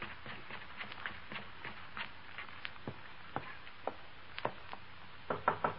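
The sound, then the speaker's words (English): Light, irregular taps repeat steadily, then a louder, quick cluster of knocks on a door lands at the very end. No one speaks. “Open the door.”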